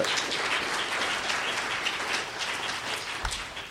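A crowd applauds the Mama Dragons, a group of almost 1,000 mothers of LGBT Mormon youth across the country. The applause is a dense wash of many hands clapping at a fairly even level for several seconds, with no voices heard.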